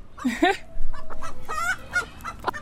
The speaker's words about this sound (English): it's something that a mother hen will do with the babies, is they're constantly making little sounds, usually not like that. That's more of the, oh my goodness, what's going on sound.